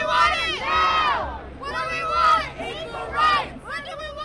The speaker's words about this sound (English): Last night, thousands of Prop 8 opponents rallied across California to protest the court ruling. What do we want? Equal rights!